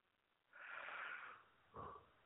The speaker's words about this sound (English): Excuse me. Sorry about that. Yawned there for a minute. Sorry about that.